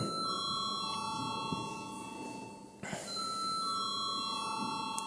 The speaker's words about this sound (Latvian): Lūdzu zvanu.